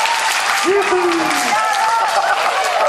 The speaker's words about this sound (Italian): Oh, questo è un applauso.